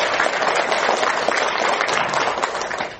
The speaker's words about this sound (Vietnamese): Dạ, quá giỏi. Dạ, cho quý vị một tràng pháo tay đi.